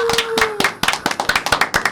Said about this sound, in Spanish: Por favor, un aplauso.